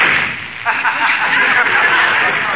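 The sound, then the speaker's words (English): A door slams shut with one sharp, heavy bang about halfway in, set against a steady background hiss that carries on after the impact. “Is the door still on the hinges, Amos?”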